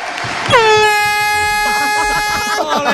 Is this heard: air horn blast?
yes